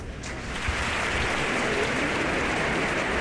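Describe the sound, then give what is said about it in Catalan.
Sustained applause from a large audience at the end of a Christmas concert in a reverberant basilica, a dense steady wash of clapping that swells slightly at the start and continues without pause. “Una nova ovació per aquestes paraules.”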